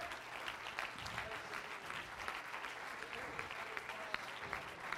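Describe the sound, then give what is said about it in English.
An audience clapping their hands together in praise to God, a dense, steady wash of many overlapping claps lasting the whole stretch at fairly even loudness, with faint crowd murmur beneath. “Let's clap our hands unto it.”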